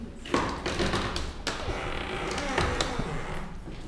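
A heavy door to a scanner room is opened, with a sharp latch click, a few knocks and thuds, and a low rumbling, creaking movement in between. No one speaks.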